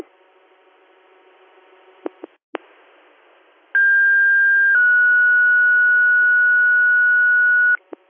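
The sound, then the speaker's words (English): Fire dispatch paging tones over a radio, sounded again for Whalen Fire's call to an activated CO detector at 300 Hamilton Street: a steady high tone for about a second, then a slightly lower tone held for three seconds, loud and pure, after faint static hiss and clicks. “You want me to hit the tones again?”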